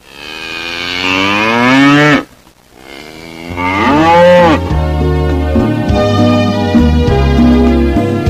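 A cow moos loudly, two long drawn-out bellows separated by a brief pause, followed by a lower, steady sustained note.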